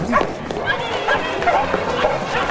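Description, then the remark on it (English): Dogs bark excitedly as three kids and the dogs rush out of a warehouse into a side room, amid a busy commotion of scrambling movement and indistinct voices, the noise fairly loud and continuous throughout. “The three kids and the dogs rush out of the main warehouse and shut themselves in a cluttered side room.”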